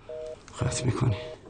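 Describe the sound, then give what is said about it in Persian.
A telephone line's disconnect tone beeps three times in an even rhythm after the other party hangs up. A man's voice talks loudly over the last two beeps. “قطع میکنی تلفنو، قطع میکنی.”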